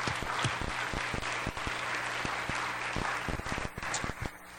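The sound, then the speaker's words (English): An audience meeting in the Knights of Columbus building breaks into steady, sustained applause as a clap offering of thanks to the Lord, many hands clapping densely at once with a few sharper individual claps standing out, continuing at an even loudness throughout. “Let's give the Lord a clap offering of thanks.”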